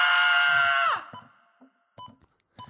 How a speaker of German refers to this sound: In meinem Treppenhaus steht eine alte Frau und schreit sich die Lunge aus dem Körper.